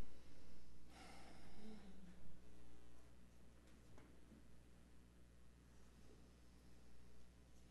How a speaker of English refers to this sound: See, listen to you breathing already. Those nice, slow, even breaths will clear your mind.